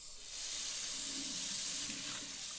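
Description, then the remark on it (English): A tap runs steadily as someone washes their hands with soap, water splashing into a sink with a broad hiss and soft gurgling, fairly loud, no voices. “One of the simplest ways to keep yourself and others safe is washing your hands with soap and water.”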